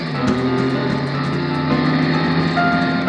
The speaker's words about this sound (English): And when I hit the cement, I started spinning rubber.